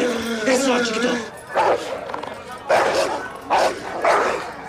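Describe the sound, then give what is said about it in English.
Dogs bark aggressively in a film by Alejandro González Iñárritu depicting the underground world of dogfighting in Mexico City: a high whining yelp first, then four loud, harsh barks spaced about a second apart over a noisy, busy background. “The film depicts the vicious underground world of dogfighting.”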